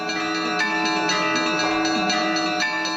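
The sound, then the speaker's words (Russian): Church bells ring continuously at the Malye Karely museum in Arkhangelsk region, welcoming guests on the Day of Family, Love and Fidelity, in a dense, layered peal, several bells struck in quick succession with sustained metallic overtones, loud with no voices. “Музей «Малые Карелы» колокольными звонами встречал гостей.”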